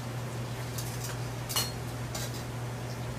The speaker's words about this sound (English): So we need to fry this okra really good. Yeah. And start. So what are we're just frying down the okra? Yep. All right. Getting all the bitterness out.